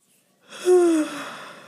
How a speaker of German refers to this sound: Bei mir gähnt's schon wieder.